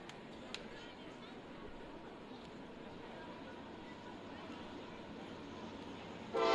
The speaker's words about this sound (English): I think he might have stepped off because of the train right there. He was getting set. Looks like he was ready to go, and the train blew its horn.